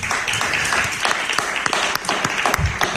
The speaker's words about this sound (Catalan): Quina meravella, un aplaudiment.